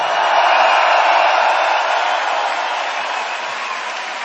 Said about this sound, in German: So, Dankeschön. Jetzt wird umgebaut. Ein Applaus für die Leute, die hier seit Tagen schuften und dieses Ding aufbauen.